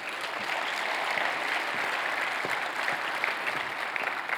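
Steady applause from a sizable audience fills the room, dense overlapping clapping holding at a consistent level for several seconds without speech.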